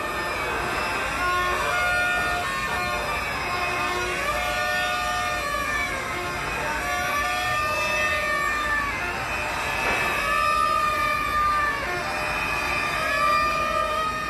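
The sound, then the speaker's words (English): Steady, low city traffic rumble coming in from the streets to a Berlin courtyard (Hinterhof) fills the whole recording, with wavering siren tones rising and falling over it several times. No one speaks. “And the other main sound is the traffic noise coming in from the streets, but that again is rather quiet.”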